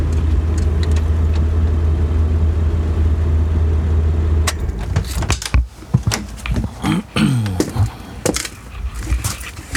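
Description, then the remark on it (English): A car engine idles with a steady low rumble, then is shut off abruptly about halfway through, leaving rustling, clicks and light thumps as someone puts on a jacket inside the quiet vehicle. “But let me put my jacket on here and shut the engine off, because we're going to shut it down.”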